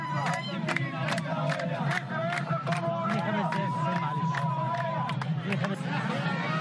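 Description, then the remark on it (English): A dense outdoor crowd of villagers outside a polling station in Dakhalia province, Egypt, murmurs and shouts steadily, while high, warbling ululations from women applauding voters rise above the din now and then, one trilling cry stretching out for several seconds. “A large crowd of villagers gathered outside a polling station in the province of Dakhalia as women ululated from time to time to applaud those who were going in to vote.”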